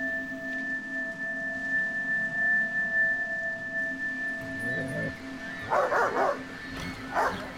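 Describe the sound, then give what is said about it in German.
A dog barks on a beach in two short, sharp bursts near the end, loud, after several seconds of steady droning hum and low background noise. “Verdammter Köter!”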